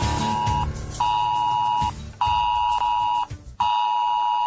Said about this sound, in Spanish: Bueno, pues no se asusten, no es el despertador, no se ha quedado usted dormido, es la alarma que podría sonar, a lo mejor con otro sonido, pero algo similar, durante esta mañana en la única isla, creo que falta por hacer esta prueba de es Alert